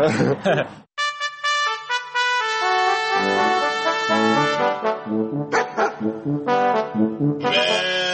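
A flock of sheep on a pasture bleats loudly, several wavering, drawn-out calls overlapping one another almost continuously, with a brief pause near the start.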